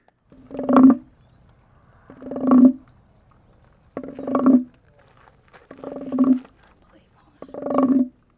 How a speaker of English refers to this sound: And they also found a wooden frog that makes a croaking noise when you rub something over it.